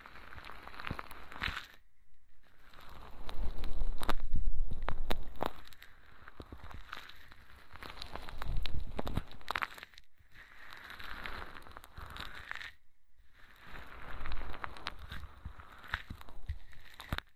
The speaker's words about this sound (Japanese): それでは柔らかい泡で耳を包み込みながら優しくゴシゴシして、たっぷりきれいにしちゃいますね。